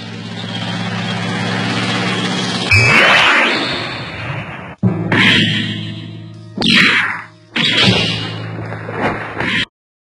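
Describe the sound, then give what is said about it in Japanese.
A car engine hums steadily with a low, droning tone as the car drives toward an airfield, broken by several abrupt cuts and louder, rougher bursts of motor noise, with no talking. “ああ、この車飛行場へ向かってるんだ。”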